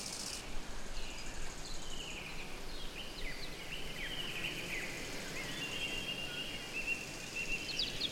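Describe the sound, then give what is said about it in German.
Faint birds chirp and twitter intermittently over a steady, hushed forest ambience, with soft rustling and no voices. “Im Wald ist es niemals ganz still. Aber lass dich nicht ablenken. Nimm das Zwitschern nur am Rande wahr.”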